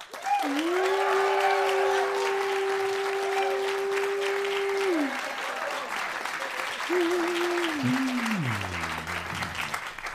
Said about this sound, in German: Also, jetzt nochmal euer Applaus für den dänischen Bong.